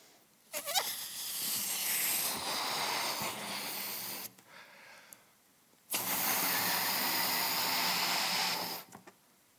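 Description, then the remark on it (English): Two long, forceful breaths blown into a balloon with a face on it, each lasting about three seconds with a strong, airy rush and a faint rubbery squeal, separated by a short pause. “Just going to blow it up.”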